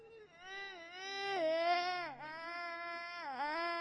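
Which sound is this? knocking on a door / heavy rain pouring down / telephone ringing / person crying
person crying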